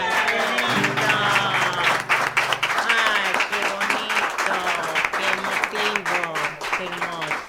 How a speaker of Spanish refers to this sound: Bueno, muchas gracias por el silencio, los aplausos.